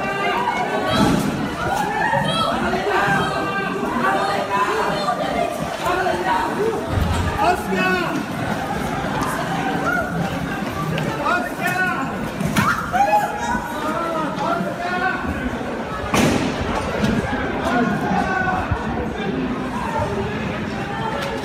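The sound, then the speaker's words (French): A panicked crowd runs down a street near Saint-Pierre-Amelot, filmed from an apartment window, shouting and yelling first names over one another while people drag bodies, with scattered thuds and the scuffle of running, loud and continuous throughout. “Ce qu'il voit est insoutenable, une foule qui court, des prénoms qu'on hurle.”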